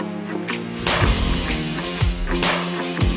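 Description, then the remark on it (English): Several sharp, booming shotgun blasts, the first shots fired from a finely made shotgun weighing nearly 8 pounds, ring out roughly every half second, each punchy, with a steady musical drone playing underneath throughout. “After seeing how much time and passion goes into this gun, these first shots did not disappoint.”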